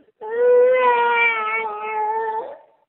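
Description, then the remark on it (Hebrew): A two-year-old toddler lets out one long, loud wailing cry, held steady for a couple of seconds before cutting off, with no talking over it. “הוא בן שנתיים ושבוכה.”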